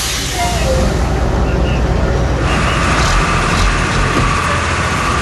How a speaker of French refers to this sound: On est en route pour Inveval. Ah, il faut que je me pousse du bus. Voilà, une charmante vénézuélienne qui descend. Donc on est dans le secteur de Los Teques, on est à une demi-heure de Caracas